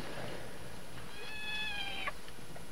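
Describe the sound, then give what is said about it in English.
A single drawn-out cat meow, high and tonal, rising then ending abruptly, from somewhere down by a garage, heard alone over a steady hiss of background noise. “Well, if I'm not doing it, and you're not doing it, it must be a real cat.”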